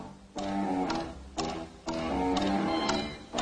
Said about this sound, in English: He'd have heard you by now, Captain, if he hadn't swallowed that alarm clock. But now when he's about, he warns you, as you might say, with his tick-tock, tick-tock, tick-tock.